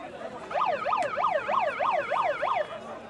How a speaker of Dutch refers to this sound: ja, ik krijg een kleine bijdrage vanuit de bus met een soort baby megafoon.